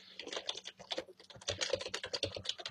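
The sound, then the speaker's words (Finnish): Rapid, continuous typing on a computer keyboard, with dense irregular key clicks and a few brief pauses, no voices. “Ja kuten tässä näkyy, niin kirjoitusvirheitä mulle tulee paljon.”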